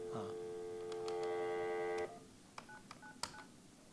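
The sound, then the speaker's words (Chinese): A steady, buzzy phone tone holds for about two seconds, then cuts off and a quick run of four or five short, clear keypad beeps follows as the number 1999 is dialed to reach a help desk call center. “所以现在我就有台北跟高雄的客服在上面啊，那我就来拨1999这个电话。”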